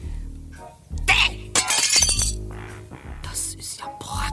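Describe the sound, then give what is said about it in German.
Glass with something stuck onto it is smashed with a crowbar in a few sharp, crashing blows, followed by tinkling shards, loud, with brief voices in the background. “So, und jetzt her mit die Brechstange.”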